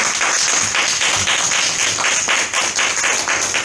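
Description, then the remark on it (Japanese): An audience in Japan applauds to welcome a guest speaker, many hands clapping in a dense, continuous wash with a faint rhythmic pulse, loud and sustained throughout with no voices. “では皆さん拍手でお迎えください。”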